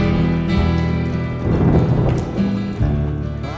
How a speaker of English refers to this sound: The rain was cold and lightning strikes.